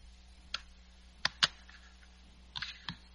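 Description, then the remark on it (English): A few sharp, scattered clicks and taps on a computer keyboard, irregular, with brief pauses between them over a low steady hum. “Start clicking on your computer.”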